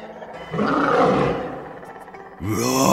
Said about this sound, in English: Roar! In the maze, the guard lion roars.